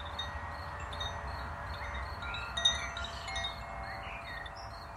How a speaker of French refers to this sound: Les voitures au loin,